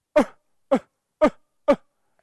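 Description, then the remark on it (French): A guide instructing tourists in Rwanda imitates a mountain gorilla's calming call, the sound gorillas make when they are ready to let people approach: four short, throaty grunts evenly spaced about half a second apart, moderately loud, with silence in between. “Si les gorilles sont prêts à nous laisser approcher, ils font ce son.”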